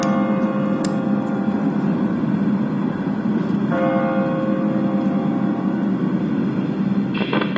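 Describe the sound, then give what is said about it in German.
A large church bell strikes the hour, tolling slowly and loudly, each heavy strike spaced a few seconds apart, its deep ringing overtones sustaining and blending into a continuous hum between blows. “Und nun die große Glocke, die Anzahl der Stunden verkündet.”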